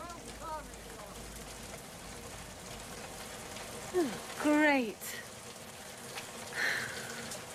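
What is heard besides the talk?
heavy pouring rain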